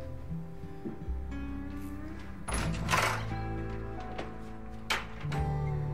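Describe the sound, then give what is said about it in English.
A door swings shut with a muffled thunk and a brief rush of noise as someone hurries out, followed by a softer knock a moment later, all over a steady low musical hum. “She stares at the door.”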